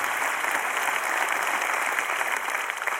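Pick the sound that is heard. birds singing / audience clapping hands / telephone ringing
audience clapping hands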